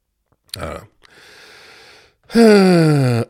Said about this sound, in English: Well, speaking of cough, I could talk about my persistent cough. Ever since I got on blood pressure medication, I don't take it anymore, but I've had kind of a persistent cough, and I'm worried that it may be more than that.